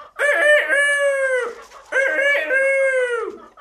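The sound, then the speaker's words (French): A rooster in a farmyard crows twice in a row, two loud, drawn-out calls, each lasting over a second with a short pause between them and no talking. “Dans la cour d'une ferme, le coq un jour appela les poules.”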